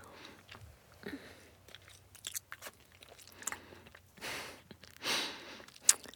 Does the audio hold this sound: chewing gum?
yes